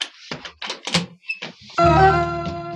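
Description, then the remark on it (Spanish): A door is shut with a few dull thumps in quick succession, then a loud sustained musical chord swells in and holds to the end. “Cierra la puerta en cuanto salgas, muchacho.”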